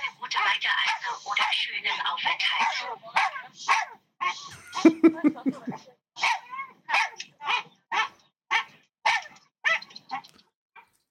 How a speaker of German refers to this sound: Ja, also plötzlich, der wird die ganze Zeit schon an Bord gewesen sein. Ey, und er war dann die ganze Zeit am Bellen. Und ich dachte mir irgendwann, ja komm, ich nehme es mal ein bisschen auf, damit wir hier Content haben für einen Podcast.